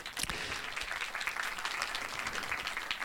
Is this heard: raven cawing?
no